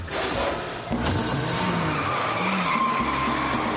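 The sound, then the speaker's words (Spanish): A van roars off with loud, sustained tire skidding as thieves run after it, the squeal rising and falling over a steady engine rumble for several seconds, with no voices. “El ladrón se suelta del susto y ve cómo el furgón desaparece.”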